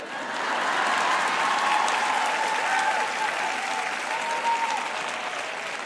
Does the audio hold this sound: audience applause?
yes